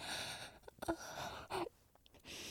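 Soft, airy breathing with a couple of sharper, gasp-like inhales breaking through a steady breathy hiss; no one speaks.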